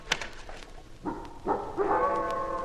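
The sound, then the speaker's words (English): A wolf howls: two short rising yelps lead into a long, sustained, wavering howl, moderately loud with no talking over it. “The wolf.”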